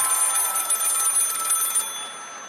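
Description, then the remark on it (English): A telephone at a telethon rings with a rapid, trilling bell, bright and steady for nearly two seconds before the high jangle cuts off. No voices are heard. “Oh my God, it's ringing. Oh my God, it's a call.”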